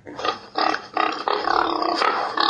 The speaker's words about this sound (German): Wenn das Kind auf ein Bild von einem bestimmten Tier auf der Startseite tappt, geht ein prächtiges Farbbild in HD-Qualität auf, der Tiername wird ausgesprochen und dazu ertönt ein typischer Laut von dem Tier. Schwein.